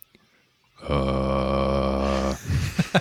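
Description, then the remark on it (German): A singer hums his deepest note into a microphone, a very deep bass tone held steady for about a second and a half, rich in low harmonics, followed by a few short breathy vocal sounds. “vielleicht kannst du noch mal einmal deinen tiefsten Ton ins Mikro brummen.”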